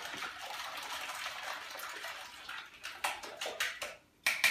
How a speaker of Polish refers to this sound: Do jajek dodaję troszkę mleka i wymieszamy to bardzo dobrze.